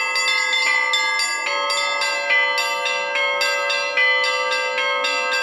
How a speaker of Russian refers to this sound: Пасхальные перезвоны, а именно так называется традиционный праздник, проводимый в Соликамске, звучал в этот день на все лады.